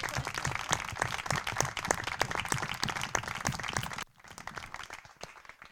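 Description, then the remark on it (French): An evening audience applauds a staff member who is present, with dense, rapid, overlapping claps that hold steady for about four seconds, then drop suddenly to thinner, quieter clapping that trails off. “On peut vous applaudir parce que vous, vous êtes là ce soir.”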